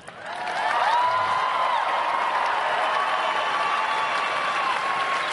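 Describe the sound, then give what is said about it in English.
A crowd at a campaign speech bursts into sustained applause after a line about a federal government defending the sanctity of human life, dense clapping swelling quickly and holding steady at full volume, with a few whistles and cheers threaded through the noise. “I wonder if there was an applause sign that flashed.”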